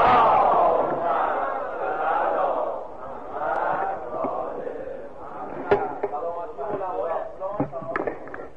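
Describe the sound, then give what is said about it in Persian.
A crowd shouts hooray together in a loud, sustained roar of many voices that gradually fades, with a few sharp knocks and claps breaking through toward the end. “خواستم میگم که یه هورا بکشید برای اینکه از این شادی که عمر مرده و اینا.”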